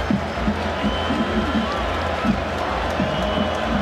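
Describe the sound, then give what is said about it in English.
A large stadium crowd roars steadily, a dense wash of voices with scattered shouts and whoops rising briefly above the constant din, at a college football game between Iowa and Wisconsin as the Hawkeyes face third down and 7. “Crowd starts to stir.”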